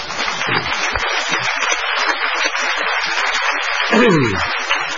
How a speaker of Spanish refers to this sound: Ahora, si usted con 84 años le faltan ganas y está a las 2:20 de la mañana en un teatro de pleno centro de Buenos Aires. Un aplauso para él.